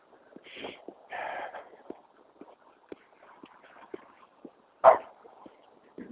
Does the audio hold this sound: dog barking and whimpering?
yes